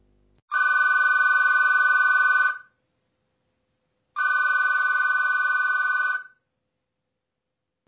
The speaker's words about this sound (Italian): In quel momento il telefonino di Rodolfo si mette a squillare.